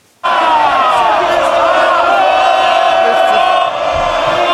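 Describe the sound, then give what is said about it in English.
MPs in the House of Commons cheer in Rishi Sunak, a loud dense, continuous wall of voices, with shouts rising above the din; it bursts in suddenly and holds steady throughout. “Let's cheer in for Rishi Sunak, of course.”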